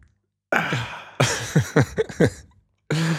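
A man coughs in a close, fairly loud fit: one harsh burst, then a rapid string of four or five hacking coughs, and another after a short pause. No one speaks.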